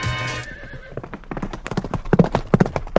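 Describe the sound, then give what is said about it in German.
A horse whinnies briefly, then hooves clip-clop in a steady, quick rhythm of sharp knocks that grow louder toward the end. No one speaks. “Als erstes begann man auf Tieren zu reiten, um schneller voranzukommen.”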